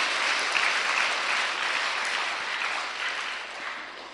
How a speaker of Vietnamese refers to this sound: Chúng ta cho một tràng pháo tay khen các bạn mù chứ.